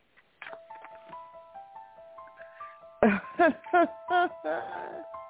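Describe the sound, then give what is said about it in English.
Tinny hold music of chiming tubular-bell tones rings out in a slow, sustained melody, then several loud, short vocal bursts cut in over the continuing tones. “we'll put on the hold music while Pat gets it. Here's the hold music.”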